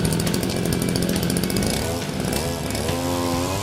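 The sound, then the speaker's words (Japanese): A small, lightweight two-stroke four-port engine with a magnesium engine body is started and roars loudly and continuously, its pitch climbing as it revs up to about 12,000 rpm, a high, buzzing whine much like a chainsaw or motorcycle, with no speech. “おお、エンジンの回転が上がる上がる。この回転なんと12000回転、まるでバイクやチェーンソーみたいな感じの回転だね。”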